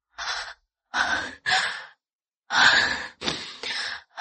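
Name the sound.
heavy panting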